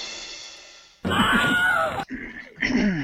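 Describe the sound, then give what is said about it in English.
A Wilhelm scream sound effect: a loud, strained male yelp of pain lasting about a second, then a shorter cry trailing after, with no talking around it. “Or no, this Will Adam scream.”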